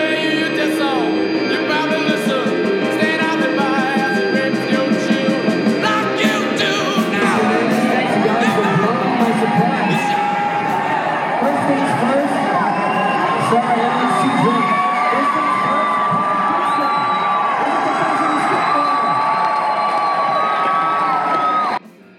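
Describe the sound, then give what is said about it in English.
A loud, excited crowd cheers and screams continuously as Tony Hawk turns Clive Dixon pro for Birdhouse Skateboards, with high-pitched shouts and whoops rising above a dense roar of voices that holds steady for about twenty seconds before cutting off. “That was the sound of Tony Hawk turning Clive Dixon pro.”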